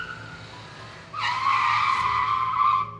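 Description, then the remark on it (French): A loud, high-pitched screech of car tires skidding, starting suddenly and holding steady for nearly two seconds over low background rumble, then cutting off without any audible crash; the car skids at a crossroads near the small town of Cholame as an oncoming Ford Custom Sedan turns left across its path. “James Dean n'arrive pas à éviter la collision”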